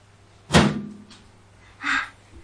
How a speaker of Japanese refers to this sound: オープンザドア。